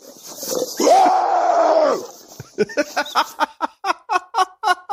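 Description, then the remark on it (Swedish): A man from Hälsingland, Sweden, facing an attacking bear at a forest edge, lets out a long, loud, guttural roaring scream, then follows with a rapid series of about ten short, forceful barking shouts in a steady rhythm, intense. “Rådet skrik inte får man väl ändå säga att han inte följer.”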